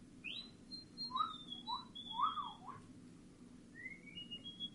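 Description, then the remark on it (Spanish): A person whistles a short, wavering tune of several high, sliding notes, fairly soft and with no one talking, over a low steady background rumble. “A mí me hace ver lo tensa que tengo la cara. Silbar.”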